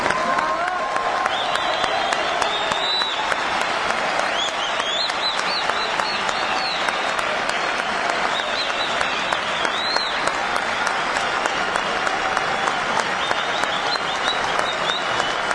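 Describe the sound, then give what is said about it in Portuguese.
A large stadium crowd of Argentine fans in Mar del Plata, Argentina, applauds continuously as Brazil's team is introduced before a game, a dense wash of clapping with scattered whistles and shouts rising over it, loud and steady throughout with no pause. “E a manifestação da torcida argentina foi essa que vocês merecem ouvir.”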